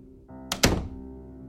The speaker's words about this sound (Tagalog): biglang napapasok sa kwarto namin, tapos sila na rin ang dali-daling nagsara ng pintuan.